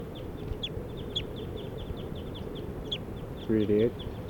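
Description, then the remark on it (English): Yellow-rumped warbler calls from at least three birds foraging and hovering in flight: a steady series of short, high, sharp chip notes repeating through a constant low rumble, with a brief low, tonal burst near the end. “Yellow-rumped warblers, at least three birds foraging and hovering in flight.”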